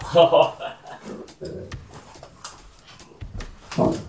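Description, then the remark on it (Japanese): Roa, a young pet golden retriever and the mascot dog of Rishiri Activity, barks excitedly in short, loud bursts near the start and again at the end, with people talking in between and over the barking. “ロア、ちょっと音声だけだから伝わんないと思うけど、僕ん家で飼ってるゴールデンレトリバーのロアがいます。”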